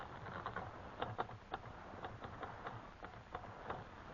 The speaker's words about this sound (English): Now, let me hit that typewriter for a minute.